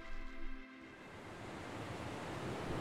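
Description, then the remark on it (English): Ocean waves wash against a rocky shore at Granite Bay on the Sunshine Coast, on Gubbi Gubbi Country, in a steady, full rushing roar that swells slightly over time; a faint tonal hum fades away in the opening moment, with no voices. “Listen to the rocks and waves rumbling together.”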